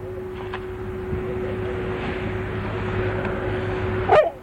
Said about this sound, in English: Shut up, dog.